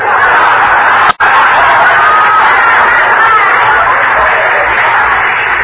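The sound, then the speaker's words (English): A dense, loud murmur of many voices fills the whole stretch, steady, like a packed crowd talking all at once, with one brief dropout near the start; a big crowd at a window in a busy post office. “There's a big crowd here.”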